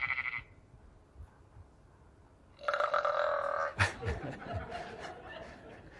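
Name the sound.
sheep burping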